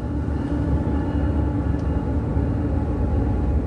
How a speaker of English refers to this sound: And that train you hear is thematic to that album, which is called ….